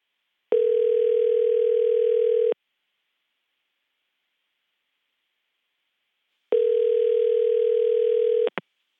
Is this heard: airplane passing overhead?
no